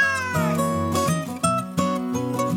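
A cat meows loudly in a quick series of drawn-out, wavering cries running together, with no talking.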